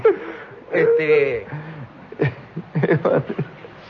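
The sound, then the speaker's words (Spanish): A man imitates a Japanese man snoring with his voice, making a few drawn-out, wheezy rasping breaths and snorts in quick succession, loud, with no other sounds around. “Como ronca. Un japonés roncando.”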